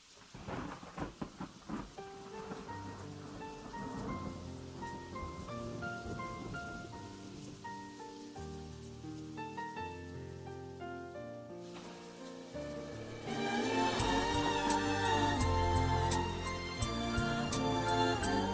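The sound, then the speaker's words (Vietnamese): Steady rain falls beneath a melodic instrumental backing, with rumbles of thunder; the music swells louder and fuller near the end while the rainy hiss continues throughout. “Giờ đây, nhìn những hạt mưa ngoài kia, lòng lại chạnh buồn, tiếc nuối cho những ngày xưa khờ khạo.”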